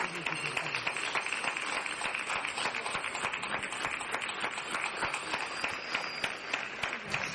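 Sustained applause from many people on a Sunday night during lockdown in Sant Vicenç, honouring shop and cleaning staff on the front line: a dense steady crackle of clapping that holds at an even level for several seconds, with a brief thin whistle rising above it near the end.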